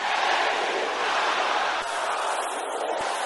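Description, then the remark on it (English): An audience of people under 30 shouts a prayer together in a loud, sustained roar of many voices, dense and continuous for a few seconds with no single speaker standing out. “If you are in this building or you are listening to us now and you are below 30, can I hear you shouting that prayer?”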